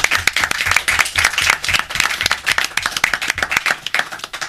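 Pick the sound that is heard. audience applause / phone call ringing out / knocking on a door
audience applause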